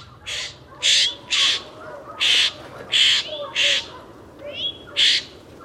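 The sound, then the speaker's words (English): A Florida scrub jay, recorded in 2009 in Marion, Florida, gives a steady series of about seven harsh, raspy, loud calls, with quiet background noise between the squawks. “Here is the Florida scrub jay, recorded this from 2009 in Marion, Florida.”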